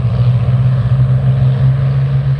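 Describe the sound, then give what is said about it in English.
Spitfire piston engines roar in a steady, deep drone as the aircraft roll down the runway at the Duxford Battle of Britain air show in 2018, a loud continuous low-pitched hum with a rough, throbbing texture and no voices. “Here they are, the Spitfires on the roll.”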